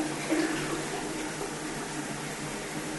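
toilet being flushed

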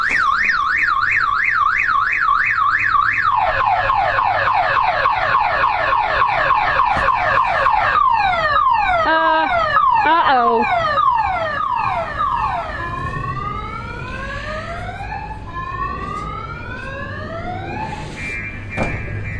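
car alarm going off

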